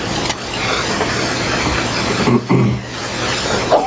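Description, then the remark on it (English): A single short sneeze bursts out partway through, rising briefly above a steady, loud background of rumbling, hissing noise that fills the whole clip. “Bless you”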